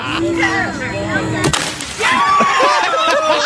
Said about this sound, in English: Then there's the one time that the heavy guy does on the diving board, and it breaks. And one more for the instant replay.